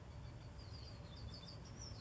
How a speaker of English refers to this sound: This thing just told me that it heard a bird.